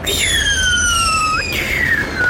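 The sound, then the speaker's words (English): Fireworks whistle overhead, above the top of a volcano: two long, steady tones glide downward in pitch one after the other, fairly loud against a low background rumble, with no speech. “as you look up through the top of the volcano, you see fireworks going off and hear this huge amphitheater.”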